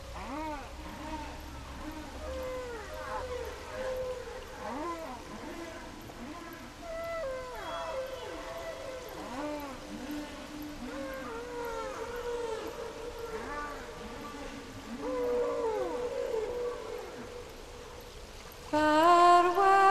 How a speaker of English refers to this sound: in which she sings with humpback whale songs recorded with a hydrophone.